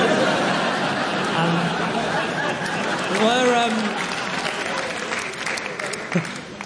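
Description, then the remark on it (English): A room full of people claps steadily for several seconds, a dense wash of applause mixed with crowd murmur, while a man's voice briefly rises above it partway through. “I'm waiting for you to applaud at the end of the sentence.”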